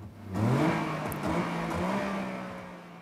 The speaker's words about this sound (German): Kurz nach Einbruch der Dunkelheit schleppt sich ein blauer Wartburg über die viel zu hohe Bordsteinkante auf den Hinterhof der Disco. Der Motor heult auf, der Hänger will nicht über die Schwelle.